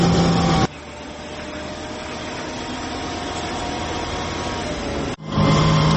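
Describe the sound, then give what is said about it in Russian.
The engine of an armored vehicle driving to a Ukrainian mortar position drones steadily with a broad, rough roar and low rumble, shifting in tone at the start and briefly dipping near the end before surging back. No one speaks. “Зараз у броньованому автомобілі їдемо на мінометну позицію.”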